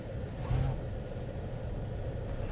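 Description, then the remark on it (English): Steady, low road rumble from inside a moving car, a continuous muffled drone at moderate level, with a brief muffled voice near the start. “I'm in the car.”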